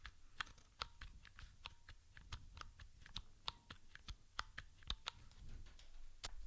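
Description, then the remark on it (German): A rapid series of sharp mechanical key clicks at an uneven typing rhythm, fairly crisp, with no voices, as keys are pressed in quick succession on a Mikey mechanical Braille input keyboard. “Da drücke ich jetzt auch immer mindestens zwei Tasten. Und noch einmal zum Schluss das Mikey.”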